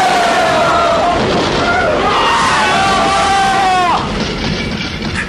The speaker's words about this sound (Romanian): Ce? Podul. S-a prăbușit.